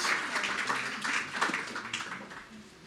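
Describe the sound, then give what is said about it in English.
A crowd applauds steadily, many hands clapping in a dense, crackling wash that holds at a moderate level for a few seconds before easing slightly toward the end. “I always feel a little embarrassed by the applause.”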